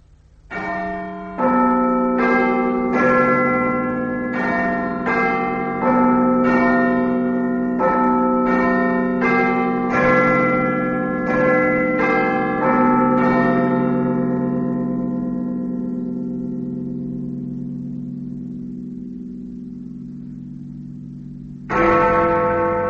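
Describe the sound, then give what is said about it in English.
Big Ben's bells ring a melodic chime of about a dozen steady, resonant strikes, then a long humming fade before a deep new stroke sounds at the very end, heard on BBC Radio ahead of the 10 o'clock news. No voices. “And now, out to Big Ben”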